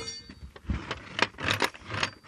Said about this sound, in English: Just 1 second, I'll just open this door here.